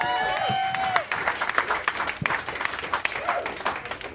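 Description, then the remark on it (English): An audience applauds the round two competitors steadily, a dense wash of many hands clapping at once with scattered sharper claps and a few cheers rising over it, holding loud for the whole stretch. “Big round of applause for your round two competitors.”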